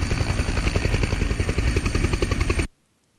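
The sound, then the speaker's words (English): A helicopter roars in to take the last three people off, its rotor blades thumping in a rapid, steady rhythm over a dense engine whine, loud and sustained for over two seconds before cutting off abruptly into silence. “Hey, here's the last helicopter in to take the last three of us off.”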